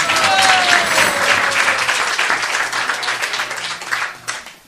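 An audience breaks into sustained applause, a dense wash of many hands clapping that holds steady and loud before gradually thinning out at the end, with no speech over it.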